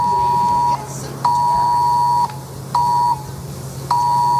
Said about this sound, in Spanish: especialmente en el norte de Cáceres y en Ávila, donde esta noche han llegado a estar, ojo, en aviso rojo, en alerta roja, y han sonado las alarmas en los móviles.